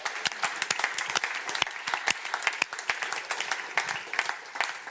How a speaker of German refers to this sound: Komm, lass uns Jesus Applaus geben.